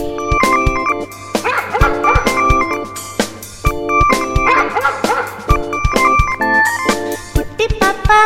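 Short, high yips and barks of a white puppy pop up in bursts over a bright, bouncy song about the puppy with steady beats, the barks mixed in with the music.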